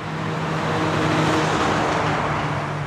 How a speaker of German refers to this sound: Autos, Autos, immer wieder Autos auf gleich drei Verkehrsachsen, die sich hier in der Nähe kreuzen. Stuttgart-Neckartor.